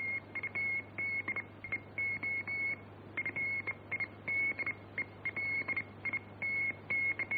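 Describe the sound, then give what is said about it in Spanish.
Morse code continuous wave (CW) telegraphy on the shortwave radio band: a single high, steady tone keyed on and off in quick short and long beeps, with a constant background hiss and a low hum. “Estas señales del código Morse, muy populares en el espectro de las ondas cortas, son fácilmente reconocibles.”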